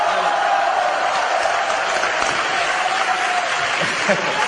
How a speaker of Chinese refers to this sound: 真正唱歌好，于谦老师，来鼓掌。